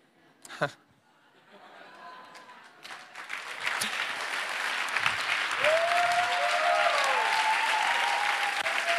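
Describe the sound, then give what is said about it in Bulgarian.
A crowd bursts into applause that swells from scattered claps into steady, loud clapping, with a few cheers and whistles rising above it toward the end. “О, ако ръкопляскаш, ръкопляскаш, че наистина вярвам.”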